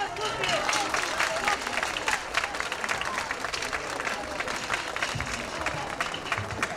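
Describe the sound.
A crowd applauds steadily, a dense wash of many hands clapping at an even, sustained loudness, with faint voices mixed into the ovation.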